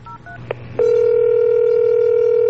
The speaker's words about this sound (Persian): همونجا رو تخت گوشی رو برداشتم و شمارش رو گرفتم.